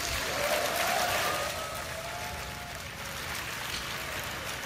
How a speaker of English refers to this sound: getting some applause from the developers who are happy to be getting the bits so they can get to work on the next version.